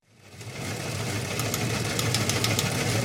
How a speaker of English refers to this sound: Well, the news wire is clicking.